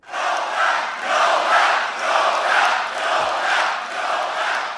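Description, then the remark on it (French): A large crowd of Trump supporters chants "Nobel, Nobel" in unison at a Saturday-night rally in Michigan. It is a loud, steady roar of many voices rising and falling in a regular rhythmic beat roughly once per second, with no single voice standing out. “Écoutez ce que chantait la foule des supporters de Trump.”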